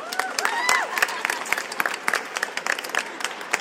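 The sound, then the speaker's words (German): A short burst of applause for a cupcake called Calcifer: dense, irregular clapping from a small group at a steady moderate level, with a few high whoops or whistles rising over it in the first second. “Dann schon mal einen Applaus für den Calcifer.”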